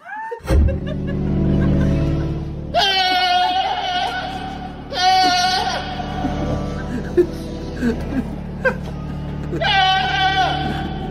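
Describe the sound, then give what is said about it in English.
A goat bleats loudly three times, each cry a wavering, quavering call lasting about a second, spaced a few seconds apart, singing along with steady low droning organ music at a cathedral in Britain. “Can you play the audio of the goat”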